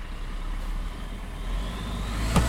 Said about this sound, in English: That's a truck, everybody. It's a scrap metal scrap truck. Scrap metal truck.